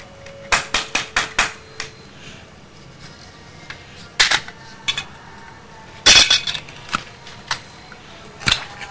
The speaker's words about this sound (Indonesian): Ini satu. Palu. Iya, palu. Buat tok. Buat tok ya.